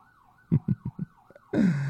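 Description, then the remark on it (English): A wavering emergency siren wails steadily while four heavy thumps land in quick succession, then a loud rumbling blast bursts in and fills the rest of the moment. “And that's the sound that's going off in my head at that moment. Sirens, alarms, explosions, adrenaline, endorphin.”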